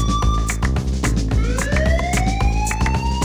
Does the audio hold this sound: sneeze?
no